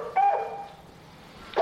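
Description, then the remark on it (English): A dog barks sharply once, then trails off into a short whine, followed by the start of another bark at the end; moderately loud, with no talking. “is that your dog barking?”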